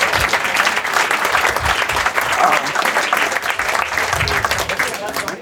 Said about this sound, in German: Dafür einen großen Applaus und ich darf dich hier nach vorne bitten.